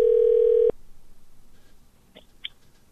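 A loud, steady telephone dial tone hums for under a second as a person calls another number, then cuts off abruptly, leaving near-quiet with a couple of faint, brief chirps afterward.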